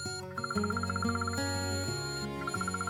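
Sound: alarm clock ringing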